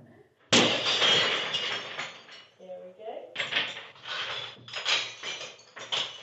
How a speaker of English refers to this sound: And believe it or not, it took seven attempts with a sledgehammer to get through a pane of the famously breakable material glass. But eventually.